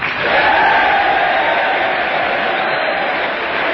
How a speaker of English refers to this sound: Once more, the Republicans rise as a man and begin applauding. The Democrats rise again, as do the members of the gallery, and the applause for General MacArthur starts up once again.